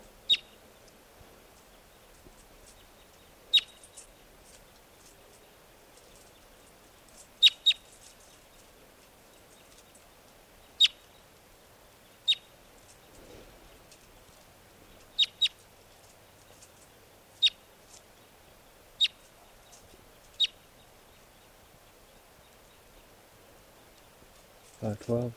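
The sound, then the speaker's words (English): Wild birds up in the trees near a net give short, sharp, high-pitched chip calls, about a dozen scattered irregularly over a quiet background, sometimes in quick pairs, followed by a brief low rustle at the end. “Recording the wild birds are still here, up in the trees near the net. This is one of them calling.”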